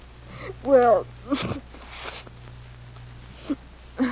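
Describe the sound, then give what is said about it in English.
A wavering, whimpering voiced sound gives way to two rough, noisy bursts of nose blowing, followed by a pause and two short, sharp sniffs. “Blow your nose and tell me why a writing fella like Will Calder suddenly comes down with writer's cramp and can't send you even a postcard.”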